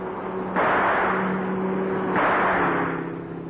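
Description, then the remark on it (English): A car engine hums steadily as two loud rushing surges of noise sweep through, like a vehicle speeding past; no one speaks. “The man in that car, he's got a gun.”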